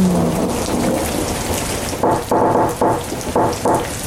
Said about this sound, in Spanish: Un aguacerón allá afuera.